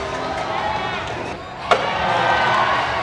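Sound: crowd cheering and applauding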